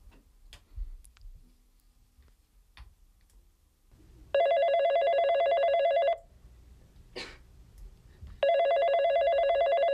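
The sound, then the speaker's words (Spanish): A telephone rings in two long, loud electronic bursts separated by a pause, with faint ticking and small clicks in the quiet background before the first ring, at the opening of the stage play Regálame tu chantaje, with no one else on stage. “Y me parece el comienzo de la obra, justo cuando suenan los teléfonos.”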